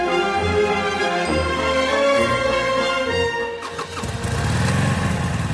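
motorcycle engine revving

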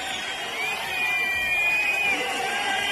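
crowd booing

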